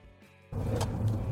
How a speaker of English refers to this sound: We've recorded on trains. We've recorded outside. And now we're recording in an American car.